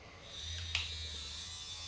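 A vibrator buzzes steadily throughout, a continuous low motor hum with a thin high whine on top and a brief tick partway through. No one speaks.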